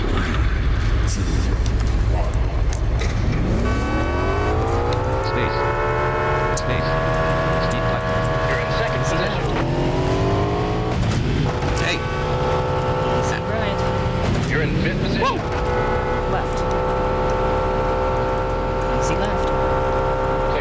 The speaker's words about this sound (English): Whoa! Turn speeds on this car are phenomenally fast. And, I should probably gear down when it's time to turn.